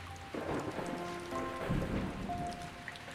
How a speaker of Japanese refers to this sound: 雨音、雷鳴、ロマンチックに程遠い門出の合図。